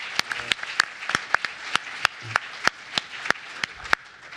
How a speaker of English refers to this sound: So let's give that a round of applause, okay? Yeah.